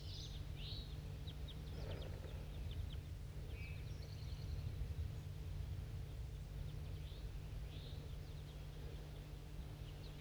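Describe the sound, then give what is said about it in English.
Scattered short, high chip notes from a flock of crossbills flying somewhere along the way downhill call in loose bursts over a steady low hum and background noise, the calls fairly faint and irregularly spaced. “Start recording a flock of crossbills was flying somewhere on my way downhill.”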